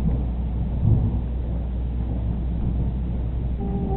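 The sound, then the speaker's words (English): Deep, steady thunder rumbles low and continuous, a dense roll of bass that swells slightly near the start and never fully fades, with a faint higher tone creeping in at the end. “What is that thunder?”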